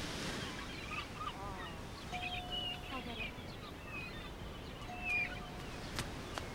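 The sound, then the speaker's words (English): A steady wash of sea waves breaks softly below the terrace of a house looking out to sea, a constant low roar, while scattered bird chirps and calls ring out above it. “Christine, her mother, and the baby stand on the terrace of the house, looking out to sea.”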